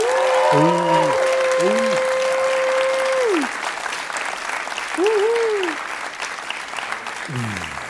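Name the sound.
audience applause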